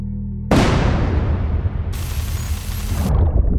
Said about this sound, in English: So basically, as the shellings and explosions are going on, the infrastructure can literally physically be breaking down, which can cause internet disruptions.